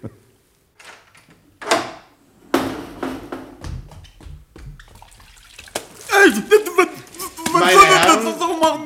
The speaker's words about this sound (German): Also wenn Sie jetzt so gut wären, die Türe ganz leise zu öffnen, um mich, ohne dass er aufwacht, mit diesem Schwamm hier an seinen Wasserkrug zu lassen.